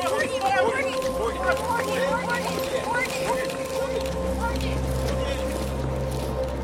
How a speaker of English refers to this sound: As her car pulls up to her mansion, paparazzi waiting outside mob her and take flash photos.